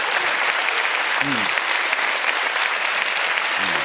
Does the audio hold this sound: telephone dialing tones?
no